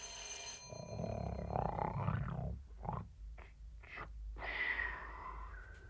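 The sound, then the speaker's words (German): Loud, rasping snores from a sleeping man, a few wheezy breaths broken by short pauses, with a faint ringing tone in the background and no talking. “Hört ihr, was ich höre? Er schläft noch und schnarcht.”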